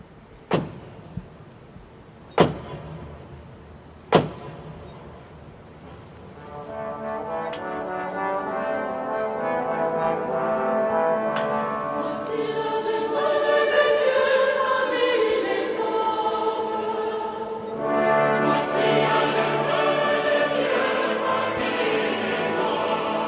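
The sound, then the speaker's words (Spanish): A ceremonial staff, a báculo, strikes a door three times to open a ceremony, loud sharp knocks spaced a couple of seconds apart, then a rich, sustained swell of tonal sound from a choir singing rises and fills the rest, with no talking. “Golpeó la puerta 3 veces y ahí ya pues comenzó lo que es la ceremonia, que se escuchaba tal que así.”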